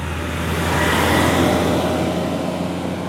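The diesel garbage truck of Salvena, Italy, rumbles past, its deep engine drone and broad roar swelling slightly in the middle before easing off, with no voices present.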